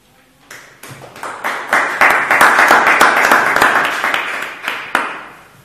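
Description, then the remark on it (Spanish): Light, scattered applause from a small group, individual claps audible as it swells for a few seconds and then thins out and fades, with no voices. “de pie y agradeciendo la llovizna de aplausos que no bien toca el desierto, se evapora.”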